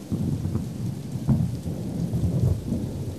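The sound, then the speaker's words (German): Heavy rain pours in a steady, dense hiss at a motor race while low thunder rumbles underneath, with a sharper crack of thunder midway through. No voices are heard. “Die Zuschauer erlebten bei heftigem Regen ein legendäres Rennen.”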